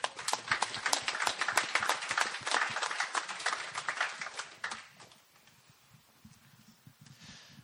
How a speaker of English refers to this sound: And so we just really want to thank you for that. Applause for you.